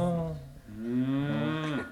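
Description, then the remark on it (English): A cow lets out a long, loud moo, its deep droning voice dipping briefly before swelling again and trailing off at the end. No one speaks. “Killed the cow.”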